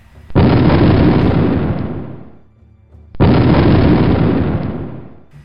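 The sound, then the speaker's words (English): Two loud, booming explosions, one after the other about three seconds apart, each a sudden broad blast that rumbles and slowly fades, with no voices. “Barrier and Bullet run in a stumbling fashion towards the door with explosions all around.”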